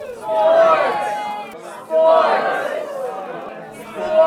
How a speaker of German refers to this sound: Ohne wirklichen Grund werfen sich die Charaktere in verschiedenen Szenen außerdem einen Football hin und her. Auch hier feuert das Publikum an.